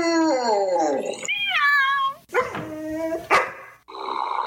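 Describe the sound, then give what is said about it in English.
Loud, close animal cries in quick succession: drawn-out cat meows with sliding pitch mixed with sharp dog barks and yelps, no talking. “Yeah, and all of our dogs and cats.”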